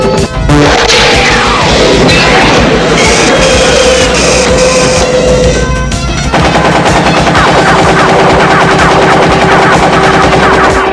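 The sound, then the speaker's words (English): Loud, sustained machine-gun fire rattles in rapid bursts during a helicopter fight, fired back at an enemy's bulletproof chopper, dense and harsh throughout, with steady whining mechanical tones underneath and a brief shift in texture partway through. “Okay, I better fire back, otherwise he'll get me for sure.”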